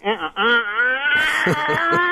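A voice imitates a yellow-headed blackbird's song with a loud, strained, wailing screech that wavers in pitch, then breaks into rough, choppy pulses toward the end.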